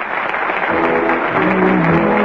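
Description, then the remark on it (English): A theater audience at the Little Theater off Times Square breaks into a sustained ovation as the curtain falls on the last act of a play, dense crackling applause holding steady and loud throughout, with faint cheering voices mixed into the clapping. “Listen to that ovation.”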